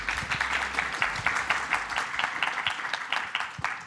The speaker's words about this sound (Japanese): 皆さん大きな拍手でお送りください。